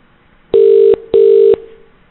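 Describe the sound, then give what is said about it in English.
Two long electronic ringback tones sound in steady succession, each about half a second with a short gap, clear, like a phone line ringing while a call connects. “Please wait while we try to connect your call.”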